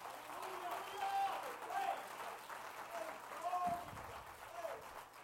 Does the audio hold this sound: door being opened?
no